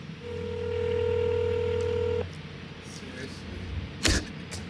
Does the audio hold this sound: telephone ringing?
yes